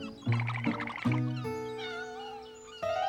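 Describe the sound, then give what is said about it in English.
A cat stuck in a tree meows several times in a row, loud, with drawn-out, wavering calls, the longest one stretching for over a second. No one is speaking. “The silly old cat got itself stuck in our tree again.”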